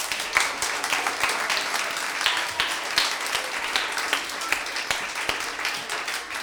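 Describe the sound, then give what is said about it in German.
An audience applauding a violinist steadily, a dense wash of many hands clapping at once, sustained without a break, with no one speaking over it. “Ich bitte jetzt um einen großen Applaus für unsere Geigerin”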